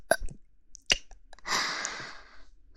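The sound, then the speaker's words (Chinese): Two short, sharp hiccups roughly a second apart, fairly loud, followed by a longer stretch of soft, breathy noise. “怎么又打嗝了？”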